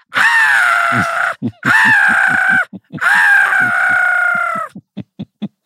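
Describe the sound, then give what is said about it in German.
A voice imitates black-headed gull screeching: three long, harsh, wavering screeches, followed by a string of short clipped calls that trail off. “Und dann wissen die Möwen natürlich genau, was los ist. Und weil ich sie nicht mehr zählen kann, kreische ich dann genauso.”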